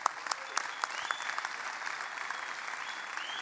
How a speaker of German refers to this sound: Diese Mannschaft hat 37 Gruppenspiele ungeschlagen überstanden, hat 16 Spiele in einer Reihe gewonnen. Das hat noch nie irgendeiner geschafft. Und dafür gebührt ihr ein grandioser Applaus.